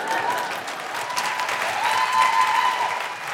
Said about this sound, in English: Anything that gets a round of applause is too good.